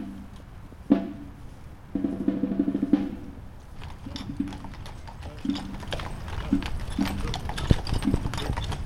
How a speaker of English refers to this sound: At Fort Sam Houston's National Cemetery in San Antonio, Sergeant Gilberto L. Sanchez's casket is being loaded onto a horse-drawn caisson.